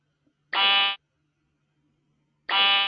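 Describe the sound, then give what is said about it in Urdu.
A quiz-show answer buzzer being tested sounds twice, each a loud, harmonically rich electronic blare lasting about half a second, separated by a couple of seconds of near silence. “آپ کے آگے بزر رکھا ہوا ہے, پہلے بزر چیک کروائیے.”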